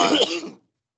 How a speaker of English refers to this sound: Man, that cough. I hope you're doing something about it.